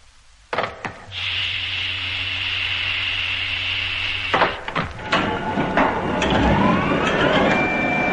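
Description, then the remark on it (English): A clunk, then a steady mechanical motor hum for a few seconds as a door opens, ending in thuds, followed by a rush of wind-like noise and faint whistling. “And open the door.”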